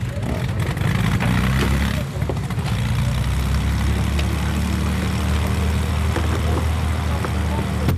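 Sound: propeller airplane engine running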